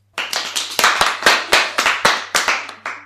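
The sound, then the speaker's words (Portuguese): Loud, brisk applause for pupils of third and fourth year classes, with claps landing in a steady rhythm, roughly every quarter second, each a sharp crack that fades quickly. There is no talking. “Aplausos para todos e todas.”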